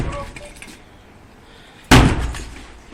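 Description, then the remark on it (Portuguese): A house door is forced open with a single sudden, loud crashing impact after a quiet stretch of faint muffled voices, followed by a brief rattling, splintering decay. “Abra a porta! Parece que non está na casa. Haberá que derribala.”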